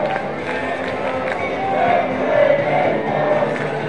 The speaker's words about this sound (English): The crowd is chanting, let's play baseball.